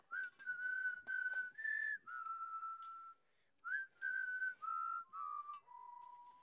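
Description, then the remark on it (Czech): A person whistles a simple melody, clear sustained notes in two phrases with a brief pause between them, no talking over it. “Ať posluchači slyší, jak krásně čistě umíte pískat.”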